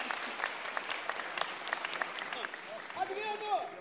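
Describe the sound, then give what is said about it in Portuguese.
An audience claps steadily, a dense patter of many hands, with voices and a few cheers rising near the end. “Então, e aplaudir isso, exatamente, aplaudir isso, porque isso aí faz parte da nossa cultura.”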